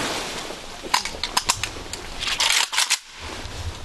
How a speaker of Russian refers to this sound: Также был произведен памятный оружейный салют. К салюту готов!